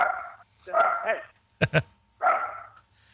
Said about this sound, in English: But there's that dog.